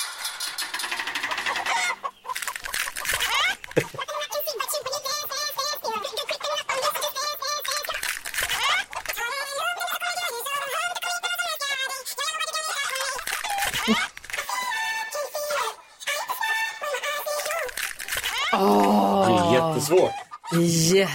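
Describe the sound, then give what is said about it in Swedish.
A busy chorus of hens in a henhouse clucking and squawking, dense and continuous, with overlapping calls and occasional louder cackles rising over the flock. “Så att vi tar och öppnar hönsgården och så ser vi nu, gissar vi ägg nummer 1, 2 eller 3?”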